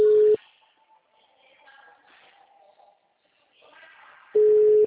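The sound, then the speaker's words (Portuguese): A loud, steady telephone ringing tone sounds briefly at the start as a phone call is placed, then again after a long pause filled only with faint, muffled background noise. “Tô ligando, ó.”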